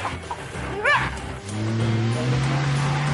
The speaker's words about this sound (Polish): Samochód świetnie radzi sobie ze wspinaczką dzięki mocnemu silnikowi i lekkiej konstrukcji.